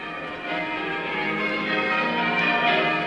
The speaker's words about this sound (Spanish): Cuando en Asís se oyeron aquellas campanas, todos supieron que era porque Francisco ya había muerto